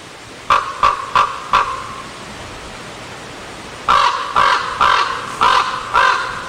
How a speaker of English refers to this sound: let's hear if we can hear the difference with a raven